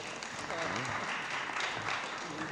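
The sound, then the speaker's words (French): A crowd applauds steadily for a few seconds, a dense wash of clapping at even loudness, with a few voices audible underneath; a council meeting applauding a newly installed regional councillor. “On peut l'applaudir parce que...”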